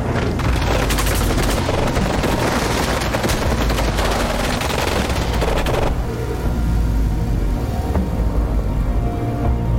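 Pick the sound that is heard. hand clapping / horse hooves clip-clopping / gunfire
gunfire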